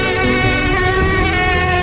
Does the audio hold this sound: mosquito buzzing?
yes